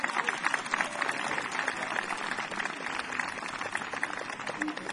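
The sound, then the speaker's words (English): An audience claps steadily, a dense wash of many hands at an even level that holds throughout without fading. “They were clapping for me.”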